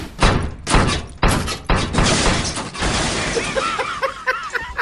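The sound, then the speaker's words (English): A refrigerator being lowered down the stairs during a house move crashes down with a series of loud, heavy thuds and bangs, about four big impacts in quick succession, trailing off into rattling, clattering debris. “I'll just lower this refrigerator down the stairs!”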